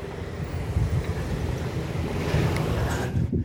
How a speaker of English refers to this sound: I'm trying to cross the street here to get back to the park, and there's a bunch of cars going by. They're supposed to stop if you go into the crosswalk, but I don't like to do that.